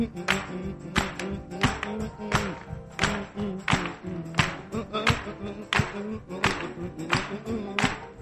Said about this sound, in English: Okay, let's clap a little bit. Here we go.